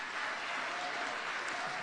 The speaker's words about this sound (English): If you believe that, take 10 seconds, clap your hands and shout.